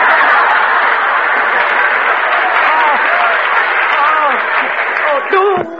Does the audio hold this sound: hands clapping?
yes